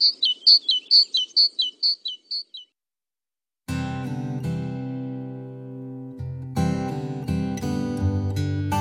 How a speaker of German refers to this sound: Vögel können also nicht gerade jubilieren, doch einige werden künftig sicher länger zwitschern.